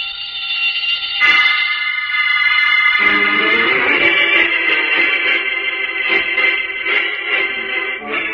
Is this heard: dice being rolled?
no